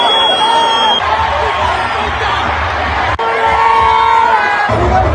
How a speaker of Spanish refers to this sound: Esas son algunas recopilaciones sonoras de lo que la gente a mi alrededor estaba gritando, incluyendo los insultos al arbitraje que sí fue cuestionable, pero todos fueron misóginos y hasta su gordofobia sacaron